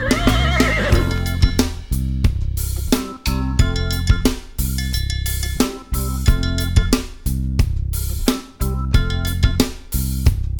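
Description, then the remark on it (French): A horse whinnies once with a shaky, wavering call in the opening second. Upbeat music with a steady driving beat immediately takes over and carries on to the end. “Allez, compagnons, à cheval!”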